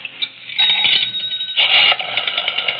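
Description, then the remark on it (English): A telephone rings with a bright, rattling bell tone as a call is placed to police headquarters, sustained for a couple of seconds with a louder burst near the middle, heard alone without any voices. “He called police headquarters, and when they answered...”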